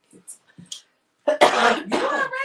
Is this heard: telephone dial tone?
no